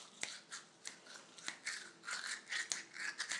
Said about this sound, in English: Spitting into the sink. Do you play both? You play the toothbrush and the spit together? Or do you have to do them one after the other? Oh, that's good rhythm.